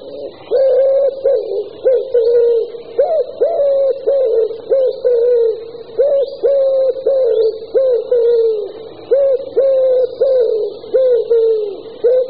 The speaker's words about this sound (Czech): Holub hřivnáč.